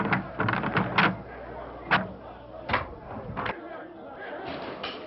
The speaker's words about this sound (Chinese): 你去开门，听听耶路撒冷城那种吵闹声。